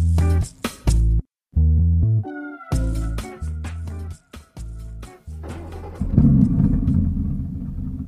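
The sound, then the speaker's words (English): An old car's engine, which has a few problems and sometimes makes funny noises, sputters and coughs in loud, uneven bursts with brief gaps, then settles into a steady, rough rumble while driving to work. No one speaks. “thank you for the lift to work today, Feifei. It's a pleasure, Finn, but my car has got a few problems.”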